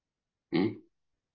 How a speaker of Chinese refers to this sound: 呕吐的、打嗝的、恶心不住的打嗝，看到没有？你看，看到没有？哎，又恶心又打嗝的，难受